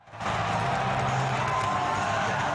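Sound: arena crowd cheering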